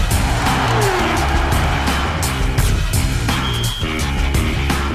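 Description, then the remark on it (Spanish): Loud racing motorcycle engines roar continuously at a Motorcycle World Championship race at the Termas de Río Hondo circuit in Argentina, revving high with rapid shifts and pitch changes as machines pass by, a dense, steady wall of mechanical noise with no talking. “emociones fuertes como las que se vivieron ayer en Argentina con las motos”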